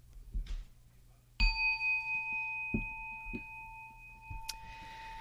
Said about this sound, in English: It's a Dharma talk, so it has to start with a bell.